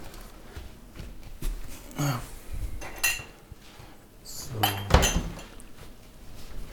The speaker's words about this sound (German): Okay, das war die Spülmaschine, glaube ich, schon. Lohnt sich nicht anzumachen. Nicht mal ein Drittel gefüllt.